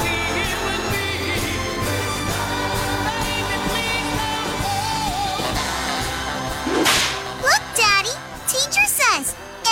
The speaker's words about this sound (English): A whip cracks, an angel gets his wings.